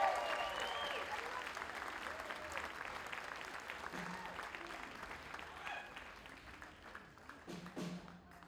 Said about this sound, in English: Come on, give him a big, big, huge applause.